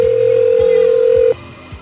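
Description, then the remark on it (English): A telephone line rings out with a single steady electronic ringback tone as a call is placed to the marine operator, holding for just over a second before cutting off into faint line hiss. “All right, we've got the mobile operator ringing here.”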